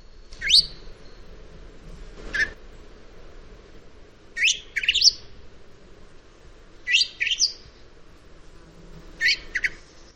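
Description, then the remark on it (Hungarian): Soft, thin whistling calls of a Eurasian blackbird, given in short separate bursts every couple of seconds, some as quick doubled notes, over a faint outdoor hiss. No one speaks. “de kiad egészen más hívóhangokat is, ilyen finom, fütyülő jellegű hangja is van a fekete rigónak.”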